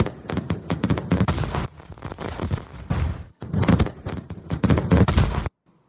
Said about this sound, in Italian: Si sentono dei rumori di mortaretti.